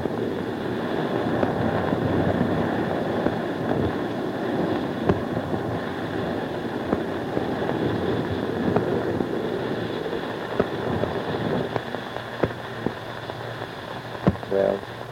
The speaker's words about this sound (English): as it goes past the porthole, the roar of the water as we're cutting through the water, we're going about 25 knots. I'll hold the mic again out of the porthole.